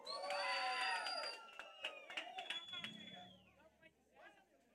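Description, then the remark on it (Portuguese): A crowd shouts and cheers loudly, many high voices whooping at once, with scattered claps, then the cheering fades into a lower murmur of chatter. “Gostou, dá um gritão.”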